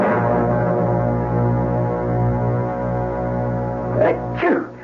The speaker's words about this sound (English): I heard you sneezing.